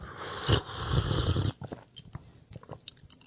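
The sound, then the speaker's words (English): A noisy, breathy slurp lasting over a second as someone sips a John Daly cocktail made of canned Arnold Palmer iced tea lemonade and about 1.5 ounces of vodka, followed by a scatter of small wet clicks and swallowing sounds, with no talking. “Once you're finished with that, you have your John Daly. Let's take a sip.”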